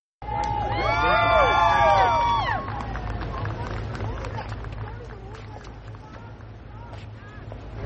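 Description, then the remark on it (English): A crowd at a music-filled Christmas Eve church service at Family Church in West Palm Beach, Florida, greets President Trump and First Lady Melania. It bursts into loud cheers and high whoops for a couple of seconds, then settles into a steady murmur of many voices with scattered claps and shouts. “President Trump and First Lady Melania were greeted with cheers as they attended a music-filled Christmas Eve church service at Family Church in West Palm Beach, Florida.”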